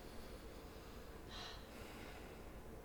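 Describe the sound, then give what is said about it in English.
A person breathing heavily: a single faint, breathy exhale or snort rises briefly out of a low, steady background hiss, quiet, with no talking. “I can hear you breathing.”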